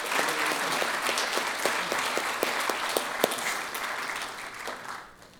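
A crowd applauds steadily for about five seconds, a dense wash of many hands with a few sharper individual claps standing out, before the clapping thins and fades at the end.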